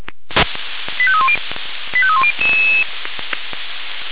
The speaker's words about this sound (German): Einsatz für die Alarmierten-Kräfte. Es geht Postendorf an der Leite, dort Baum. Genau, der Alarmruf.